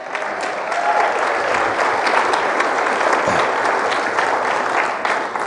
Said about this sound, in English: Now you can clap.